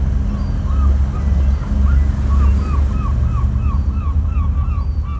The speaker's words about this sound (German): Der Motor startet wieder und fährt zum Hafen zurück.